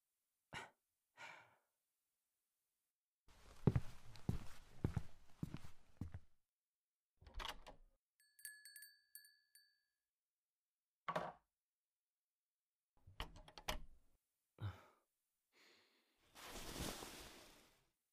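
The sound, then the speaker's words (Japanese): Quiet footsteps and a few wooden clacks at a shop door as someone flips the hanging open sign to closed, a short metallic chime ringing briefly, then a soft rustle and a breathy sigh at the end. “ああ、ドアのところのオープンをクローズにひっくり返したんだ。今日はもう店じまい。”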